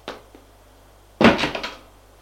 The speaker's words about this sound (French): Frappe à la porte.